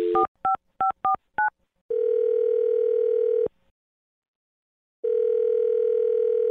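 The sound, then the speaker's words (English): A quick series of touch-tone beeps dials a woman's phone number, followed by a steady ringback tone that sounds for a second and a half, pauses in silence, then starts ringing again. “I'm going to dial her phone number right now, see if we can get her on the phone, and find out why she's not calling you back, okay?”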